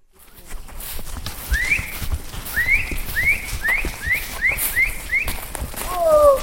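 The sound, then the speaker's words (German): A cattle rancher on horseback whistles in a quick series of rising calls over the steady clip-clop of his horse trotting toward the herd, with a few shouted calls at the end as he rounds up his cattle outdoors. “Ein paar Pfiffe und Rufe und die Tiere bewegen sich in die gewünschte Richtung.”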